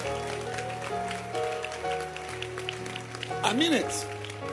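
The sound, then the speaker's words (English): A church audience claps for the instrumentalists in a steady, dense patter while sustained instrumental tones hold underneath and a voice speaks over them, with a brief swooping note near the end. “Instrumentalists, clap your hands for them.”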